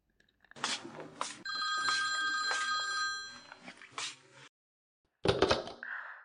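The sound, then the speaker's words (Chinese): A telephone rings with a late-night call, a bright, sustained electronic trill lasting several seconds, then stops; after a short pause comes a brief clatter of handling noise. “小峰，你怎么又打电话来了？”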